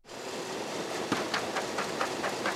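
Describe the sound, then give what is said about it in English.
A ballot tabulation machine runs mock mail-in ballots through during a logic and accuracy test at the Maricopa County ballot tabulation center in downtown Phoenix, with a steady mechanical whir and a quick, regular train of soft clacks, roughly four or five per second. No one speaks. “what we're hearing right now are mock mail-in ballots”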